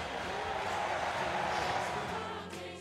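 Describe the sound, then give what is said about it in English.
A baseball crowd cheers Candelario's home run to deep right center for the Cubs in the first inning, a steady, dense roar of many voices that holds strong for nearly three seconds before easing slightly at the end. “Listen to this crowd.”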